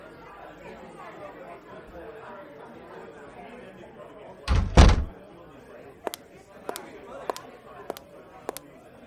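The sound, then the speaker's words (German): After a knock, a door bangs open with a loud double thud over murmuring voices as guests are let in, followed by a handful of sharp, evenly spaced clicks and taps as people come in. “Ich weiß nicht, ob du Besuch erwartest, aber da steht noch jemand vor der Tür. Ey, lass uns die mal reinholen.”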